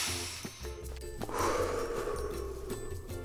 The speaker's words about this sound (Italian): Avete sentito l'aria che entra nel naso, poi scende, riempie i polmoni? Siamo vivi.